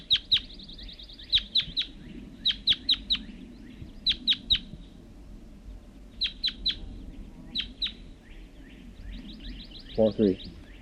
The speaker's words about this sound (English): It was one lone male red crossbill, large race, and I see him sitting in the large white pine across the hollow, across the creek.